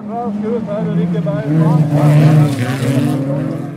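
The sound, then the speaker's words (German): Several old, stripped-down folk-racing cars rev and roar together on rough gravel tracks in Sweden, their pitches rising and falling as the cars accelerate and ram into each other, with a rough, continuous din throughout. “Ein paar jungen Männern war langweilig und so haben sie angefangen, mit ihren alten Autos auf schlechten Schotterpisten zu fahren und sich dabei auch zu rammen und ineinander zu fahren.”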